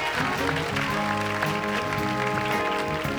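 Steady audience applause and crowd noise fill the room, mixed with a band playing sustained chords underneath, loud and continuous for the whole stretch without any talking.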